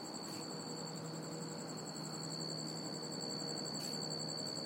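A stridulating cricket up in a tree chirps steadily in a rapid, pulsing trill, high-pitched and continuous over a soft background hiss, with a brief pause near the end before resuming. No one speaks.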